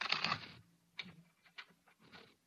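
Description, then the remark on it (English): A deck of playing cards is shuffled during a card trick: a dense, quick riffling burst, then a few short, papery flicks and taps as the cards are squared and handled. “Now, put it back in the deck. Shuffle the cards.”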